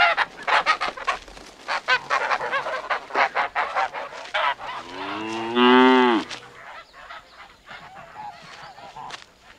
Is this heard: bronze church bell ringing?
no